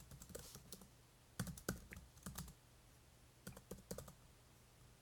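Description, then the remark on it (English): Quick keystrokes on a computer keyboard as someone types out a tweet come in short irregular bursts with brief pauses between them, over a faint steady hum and no talking. “So 1 second. I'm typing.”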